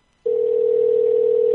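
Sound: telephone dial tone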